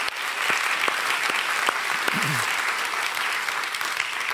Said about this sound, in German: Also ganz große Klasse, ihr vom Kreativteam, was ihr wieder hier miteinander vorbereitet habt. Vielleicht einfach nochmal einen Applaus für das Team, ich finde das super.